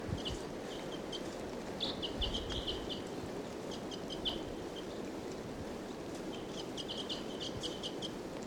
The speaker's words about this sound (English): Wild bird. 745 on the side, but they're loud. Wild bird again.